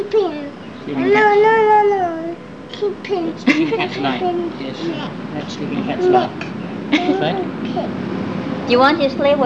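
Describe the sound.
A cat meows several times, long drawn-out cries near the start and again at the end, with quieter voices and shuffling noises in between.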